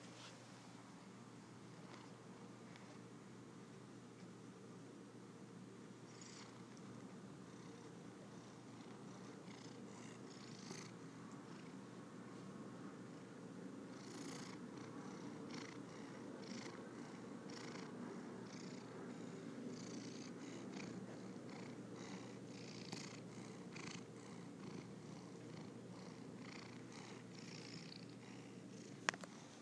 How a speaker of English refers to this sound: You have just been witness to another cat purring session.